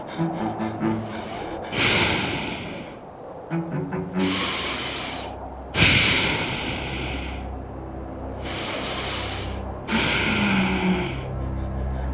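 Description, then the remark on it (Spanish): A white, eight-legged ram-like creature, kneeling and hunched with its face right up close, breathes heavily, with about five loud, rasping snorting breaths coming in a slow, steady rhythm roughly every two seconds, each breath followed by a low rumbling pause. “Su cara estaba tan cerca de la mía que podía sentir su respiración.”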